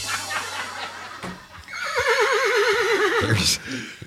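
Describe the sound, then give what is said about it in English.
A horse whinnies loudly, a long quavering neigh that wavers up and down for a couple of seconds before ending in a snort. “If you promise to listen, we'll buy you a horse.”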